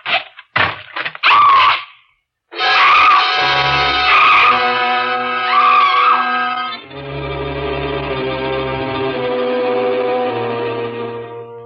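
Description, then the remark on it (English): A few sharp thumps, then a woman's loud, high-pitched scream wavering for several seconds, fading into sustained, swelling dramatic music. “I stopped screaming finally.”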